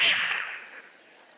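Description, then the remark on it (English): A single sharp whip crack, like the one on the show Rawhide, bursts out bright and loud, then fades over about a second into a hissy tail. No voices are heard. “And when he snapped, it sounded like the whip crack on the show Rawhide.”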